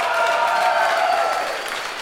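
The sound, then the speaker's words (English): A crowd of people who have seen the film Equilibrium breaks into steady applause, dense overlapping claps forming a loud, even wash of noise that holds for a couple of seconds and eases slightly at the end. “Applaud if you've seen Equilibrium.”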